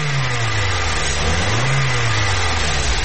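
A car engine revs and accelerates as it pulls away from a traffic light that has turned green, its low drone climbing in pitch partway through, loud throughout the few seconds, with no voices.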